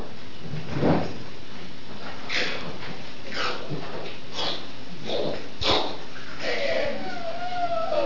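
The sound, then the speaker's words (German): A heavy prison cell door is unlocked and swung open by a guard, with a metallic clank near the start, scraping and rattling, then a creaking squeal as it moves, moderately loud. “Möhrhardt sitzt melancholisch in seiner Zelle, der Wärter öffnet die Tür.”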